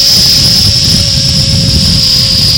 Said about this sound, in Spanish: Mezcla todo en la licuadora.